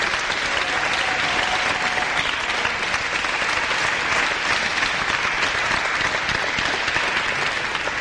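An audience claps steadily for about eight seconds, a dense, even wash of many hands at a constant, fairly loud level with no voices breaking through.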